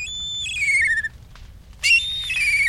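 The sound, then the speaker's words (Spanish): A black kite calls twice, each a high, thin whistled cry that wavers and slides downward, with a short pause between them over a low background rumble. “Cuando un incendio arrasa la sabana, rapaces como milanos negros se posan o planean cerca del borde de las llamas, esperando presas como saltamontes y lagartijas que huyen en busca de refugios.”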